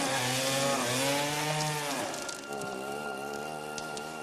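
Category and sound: tool, saw cutting through wood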